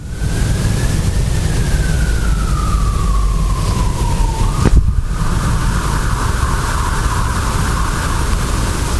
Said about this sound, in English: And even though the sirens are blaring, there's nothing of emergency about us and what we are exploring and doing.